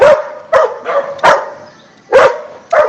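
A small dog barks repeatedly, several loud, sharp barks in an uneven rhythm with brief gaps between them and no talking.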